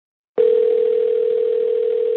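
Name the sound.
telephone dial tone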